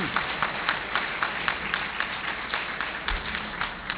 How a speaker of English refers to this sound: Indeed, as I've so often said, consensus is the negation of leadership. If we attempt to rely solely, yes, do applaud that, I'd be very grateful.